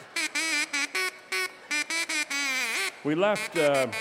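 A man from Minnesota plays a duck call as a melody: a quick run of short, buzzy quacking notes stepping between pitches in a bouncy rhythm, ending with two longer swooping quacks, clear.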